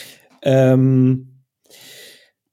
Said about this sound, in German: Jetzt muss ich husten, das tut mir leid. Gar kein Problem. Es kratzt im Hals.